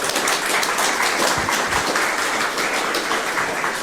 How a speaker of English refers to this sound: So thank you very much for that, and a big round of applause for those folks.